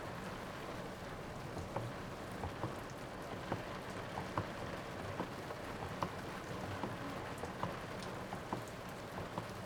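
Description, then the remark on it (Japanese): Steady rain falls on a surface, a dense hiss dotted with sharp individual drops pattering irregularly throughout, with no voices; the rain is gradually getting heavier, with a typhoon due the next day. “雨、ちょっとずつ強くなってきてるね。”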